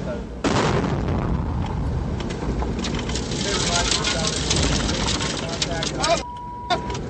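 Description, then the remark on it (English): A sudden, very loud IED blast hits a Humvee in a convoy, followed by several seconds of roaring rumble and clatter as metal and sand shower into the Humvee, with muffled voices and coughing inside, ending in a thin high-pitched ringing tone. “The explosion showered metal and sand into the Humvee, leaving those inside coughing.”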